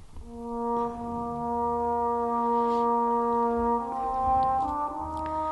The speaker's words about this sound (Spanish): los metales solemos tener distintos tipos de sordina, en el corno la que más se usa es la de madera, y este solo particular es con sordina de madera, que se escucha que el timbre se hace como un poquito más opaco y tiene como otro color, ¿no?